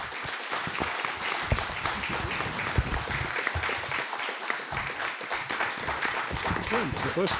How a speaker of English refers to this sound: Now, we only got one applause line there. Lincoln supposedly got five.